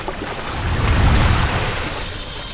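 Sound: rushing waterfall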